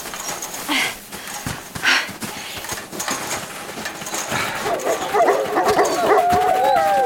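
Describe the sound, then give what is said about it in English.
Wolves bark and yip in a lively chorus, with sharp scattered barks at first, then a rising tangle of high yips and short howls near the end. “They're leading us to the cabin, aren't they? Hmm? And you thought you didn't talk wolf.”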